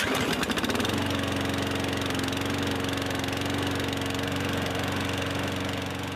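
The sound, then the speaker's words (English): A petrol lawn mower engine runs steadily as a next-door neighbour mows the lawn: a loud, continuous mechanical drone with a rattling pulse after a brief revving start. No voices are heard. “Sound effect one. One of your next door neighbours mows the lawn.”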